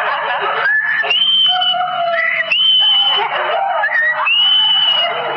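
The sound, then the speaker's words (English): A human voice imitates a skylark's song, a continuous run of high whistled trills and warbling phrases that slide up and down in pitch, loud and unbroken for several seconds with no talking. “Hey, as we reach the wood, we hear the song of the lark.”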